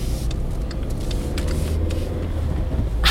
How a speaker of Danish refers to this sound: Kommer der også en bil? Nu kommer der også en bil bagved os, ja. Så den vender rundt og kører tilbage igen.